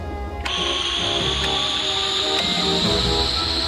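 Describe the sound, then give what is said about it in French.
After a brief quieter moment, a loud, steady airlock depressurization hiss rushes in and holds for several seconds. A thin high whine runs through it, with a few faint clicks. “Dépressurisation du sas.”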